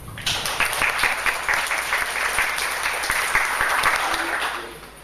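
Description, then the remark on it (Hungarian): A crowd at an event hosted by Óbuda University's Alba Regia University Centre applauds its hosts steadily for about five seconds, a dense wash of clapping that stays loud throughout before tapering off at the end. “szeretném megköszönni az Óbudai Egyetem Albarégiai Egyetemi Központjának a lehetőséget, hogy itt megtarthattuk ezt a rendezvényt, és mielőtt tovább mennék, hadd kérjek nekik egy nagy tapsot.”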